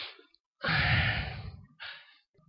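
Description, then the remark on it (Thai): A loud, forceful deep breath out lasting about a second, preceded by a faint breath and followed by a softer, shorter exhale; a frightened person breathing hard as instructed. “กลัวไหมกลัวไหม กลัวครับ กลัวให้รู้ว่ากลัวกลัวหายใจแรงๆที”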